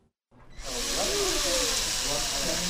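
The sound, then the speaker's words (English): In Wrangell High School's shop, middle and high school students build drones: a power drill starts up after a brief silence and holds a loud, steady whirring hiss, with faint voices murmuring underneath as plastic drone parts are screwed and zip-tied together. “Plastic pieces lie all over a communal table as students screw and zip tie their machines together.”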